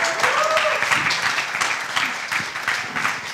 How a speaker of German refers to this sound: Dann mal Applaus.